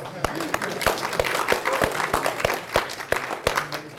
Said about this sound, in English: So this applause is seriously deserved by all the class reps.